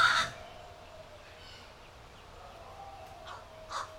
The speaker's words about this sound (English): Close up in the trees around my house, I hear the gargle snaps and shallow trial calls, relatively soft, of youngsters. The watch crow on my roof cocks an eye and listens. All in a day's work, raising the next crow generation. Caw, caw, caw.